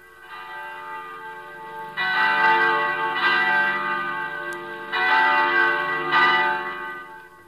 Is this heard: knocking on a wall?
no